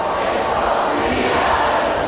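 A huge festival crowd sings together, thousands of voices merging into a dense, steady roar that holds without a break for a couple of seconds. No single voice stands out.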